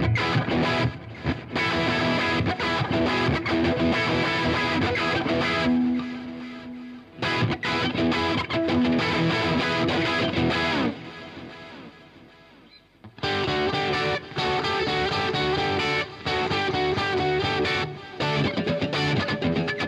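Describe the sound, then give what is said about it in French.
An electric guitar plays a steady run of notes through a ping-pong delay, echoes trailing each phrase, with a short quieter lull partway through before the playing picks back up. “Non, on va commencer par le délai ping-pong, tiens.”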